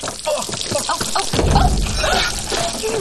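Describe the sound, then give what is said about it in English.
Water leaks from a pipe under a sink, starting with drips and splatters, then turning into a louder, steady rushing spray that continues to the end. “A pipe leaks.”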